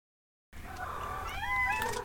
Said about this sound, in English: Said the chorus of 10, 11 other cats of various sizes arranged in a wild furry patchwork around her.